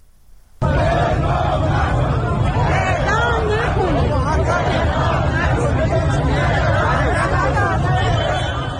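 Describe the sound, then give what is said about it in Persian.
A large crowd of protesters, including families of people sentenced to death, chants and shouts 'Don't execute' in front of the Islamic Consultative Assembly (parliament) building in Iran, in a loud, continuous roar of many voices, starting abruptly after a brief quiet moment and holding steady to the end. “همزمان با 39مین هفته کارزار نبه اعدام، جمعی از خانواده‌های محکومان به اعدام و مخالفان با این حکم در مقابل ساختمان مجلس شورای اسلامی تجمع کردند و شعار اعدام نکنید سر دادند.”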